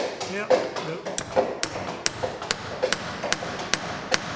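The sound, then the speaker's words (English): Sharp metallic hammer blows drive iron rivets into the hull of a replica ship being built by volunteers, roughly a dozen ringing strikes in an uneven rhythm, with a low murmur of voices and clatter underneath. “We're putting rivets in, iron rivets.”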